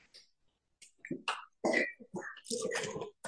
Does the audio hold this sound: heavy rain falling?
no